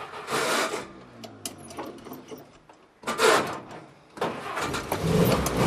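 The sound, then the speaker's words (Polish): An old car engine, with the hand choke pulled and started by a foot-operated starter, cranks with a rhythmic, grinding starter whir in several bursts, then catches and sputters into a rough, loud running idle. “Jest, sukces, zadziałał. Ale pięknie pracuje. Posłuchajcie Państwo.”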